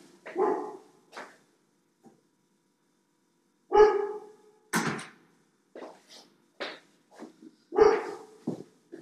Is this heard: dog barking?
yes